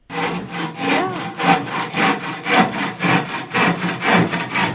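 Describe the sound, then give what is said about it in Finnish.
Steady hand sawing through wood while building a wooden helicopter, with repeated rasping strokes in an even back-and-forth rhythm, loud and continuous with no talking. “Siinä me vaan nikkaroitiin.”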